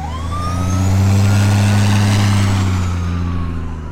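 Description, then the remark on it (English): Airport fire response trucks arrive by a runway at a scene with a bus and victims, with no rain falling, a deep, steady engine drone with a siren tone sweeping faintly above it as the vehicles swell louder and then ease off. “The airport's fire response vehicles are the first to arrive.”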